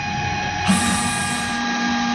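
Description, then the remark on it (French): A steady mechanical drone with humming tones, then the flush of an enclosure that serves as a toilet for cows bursts in as a bright hiss of rushing water for about a second before fading, leaving a low hum behind. “Pas très agréable à écouter, mais c'est ce qu'on pourrait appeler la chasse d'eau, parce qu'en fait, cet enclos sert de toilette aux vaches.”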